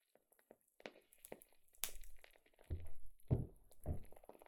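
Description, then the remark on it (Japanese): Soft, irregular crackling and popping from a wooden candle wick, with scattered sharp snaps and a few fuller, thumping bursts. No one speaks, and the sound stays fairly quiet throughout. “芯が木でできていて、焚き火をしている時のようにパチパチと音がするんです。”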